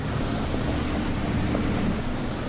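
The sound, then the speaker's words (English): A steady, unbroken low hum of giant power generators powering the city of Beirut, Lebanon, a dense rumbling drone with no pauses or changes in level, and no voices. “The non-stop hum of giant generators powering the city.”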